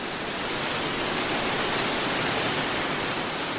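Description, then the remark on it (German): A waterfall at the Kuhfluchtgraben, heard from a bridge over it, roars in a steady, dense rush of water shooting down, loud, holding constant for the whole stretch with no voices or other sounds over it. “Auch hier, wie sollte es anders bei einem Wasserfall sein, schießt das Wasser runter.”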